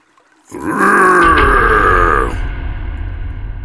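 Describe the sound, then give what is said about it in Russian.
A loud, deep monstrous battle roar bursts out suddenly in a spruce forest by a river, a rough growling bellow held for nearly two seconds, shaking blackened needles from the spruces, before breaking off into a lingering low rumble. No one speaks. “От моего боевого рева съели посыпалась почерневшая хвоя, вода в реке мгновенно замерла, а обе девчушки едва не присели, увидев нависшего над ними Аарха с огромным и страшным мечом.”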